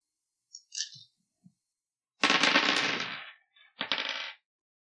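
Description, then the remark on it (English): Dice being rolled in a tabletop role-playing game, a number of dice equal to a character's mind points: a few faint clicks, then a loud, dense clatter for about a second, followed after a short pause by a shorter burst of rattling. No one speaks. “Why don't you roll a number of dice equal to your mind points?”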